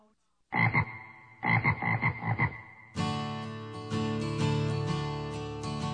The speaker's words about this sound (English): let the frogs out.